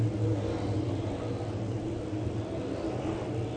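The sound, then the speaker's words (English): A steady, dense rumble of a field of late model race car engines idling and revving together before the start of a 60-lap race at East Bay Raceway Park, loud and continuous with strong low-end drone and no voices. “what an awesome field of race cars we've got getting ready to go for 60 laps here.”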